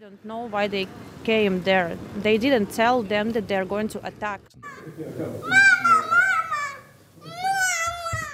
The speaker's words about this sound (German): In einem Hotel in der Nähe zum Grenzübergang. Nur wenige Kleinkinder toben hier im freigeräumten Konferenzzimmer. Hier können sie rennen, ein bisschen Spielzeug liegt auf dem Teppich.